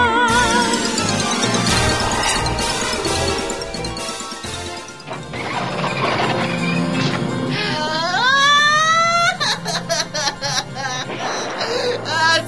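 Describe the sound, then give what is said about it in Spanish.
A man's loud, exaggerated wailing cries with sliding pitch rise over busy music and crashing effects, the sobbing growing most prominent toward the end. “Alguien está llorando.”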